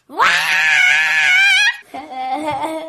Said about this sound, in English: Number three, sometimes you just gotta scream.